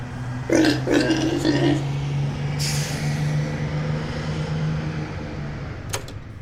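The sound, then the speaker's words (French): A large bus idles with a steady low engine rumble, then a loud hiss of air brakes bursts out briefly. A short sharp click follows near the end. “Hé, toi là, va courir au lieu de prendre le bus, gros porc.”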